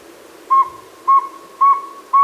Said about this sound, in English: So if you hear a tiny little dump truck backing up in the woods, you know to look around for a saw-wet owl now. Or a dump truck. Maybe. I mean, you never know. Right. All right, let's hear how we did. Here's what a real saw-wet owl sounds like.